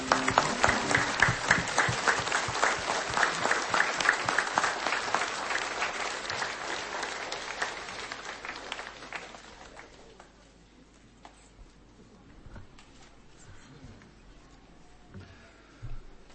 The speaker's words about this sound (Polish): raz wielkie oklaski dla Pana Jezusa.